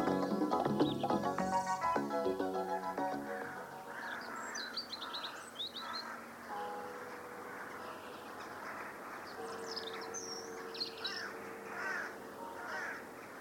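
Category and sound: bird, birds chirping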